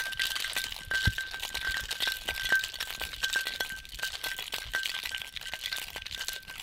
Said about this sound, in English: Once you have your ice in your mixing tin, go ahead and give it a great shake.